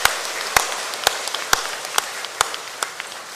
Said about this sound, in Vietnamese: Xin cho một tràng vỗ tay thật lớn để tạ ơn chung.